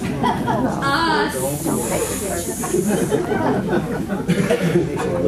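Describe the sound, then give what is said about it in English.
During a choir rehearsal, a person makes a long, sharp snake-like hiss, holding an S sound steadily for about two seconds, fairly loud, while other voices chatter and chuckle underneath. “It sounds like almost like you're doing it on purpose. That's how it sounds, like a sneaky little snake.”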